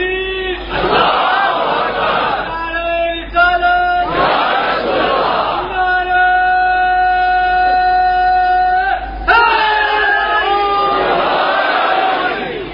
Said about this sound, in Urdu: دیکھیے بات جب بنے گی، جب تینوں نعرے آپ لگائیں گے آج، جب تینوں نعرے